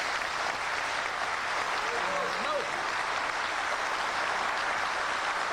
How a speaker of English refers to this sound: And I think they're worthy of your applause tonight.